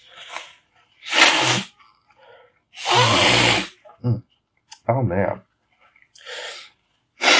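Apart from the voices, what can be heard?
blowing nose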